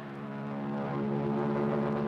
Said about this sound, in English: Then the Royal Canadian Air Force will fly overhead towing a 10-ton maraschino cherry, which will be dropped into the whipped cream to the cheering of 25,000 extras.